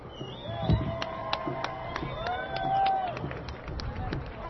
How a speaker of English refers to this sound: Thank you, Reverend Susan McCann. Can I have a round of applause for Reverend Susan McCann?